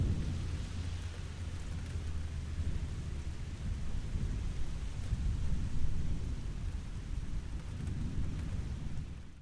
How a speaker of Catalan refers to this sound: M'envaeix la calma i em deixo bressolar pel so de la pluja.